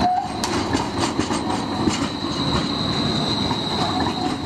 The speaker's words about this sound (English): The streetcar would instead be a fully enclosed, short string of rail-like cars powered by overhead electric wires and glide on a rail built into the street, like this streetcar in Portland, Oregon.